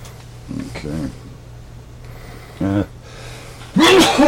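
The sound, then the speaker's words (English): A loud sneeze bursts out near the end, a sharp breathy explosion following a few shorter throaty vocal noises and a brief sniff-like sound. “Bless you.”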